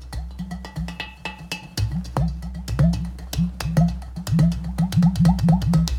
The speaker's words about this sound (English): Udu drums are from Nigeria. They're originally a pot storage vessel that has an extra hole in it. These were considered women's drums, and men weren't allowed to play them for a very, very long time.